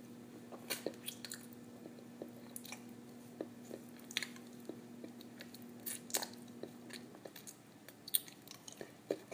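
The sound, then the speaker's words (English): Quiet wet mouth noises simulating oral sex, irregular smacks, sucks and slurpy clicks coming in quick clusters, over a faint steady hum that fades out near the end. No one speaks. “My lips gently kiss your tip, wrapping around your head, sucking and slurping.”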